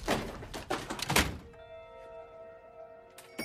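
Quick bursts of rustling and scraping as money is shoved into a drawer, then a dull thunk as the drawer shuts, followed by a steady low tonal hum with no talking.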